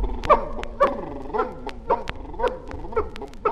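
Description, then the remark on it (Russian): A puppy barks in a quick, excited series of high yips, about seven sharp barks spaced roughly half a second apart, clear with no one talking. “Щенек радостью пылая, впереди несется лая.”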